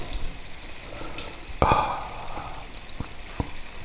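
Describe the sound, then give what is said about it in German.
A small amount of mineral water is poured into a glass in a short burst with a fizzy hiss, followed by a few scattered drips and small clinks. “ich werde jetzt noch ein Schlückchen Mineralwasser trinken.”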